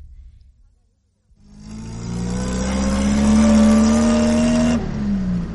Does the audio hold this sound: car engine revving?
yes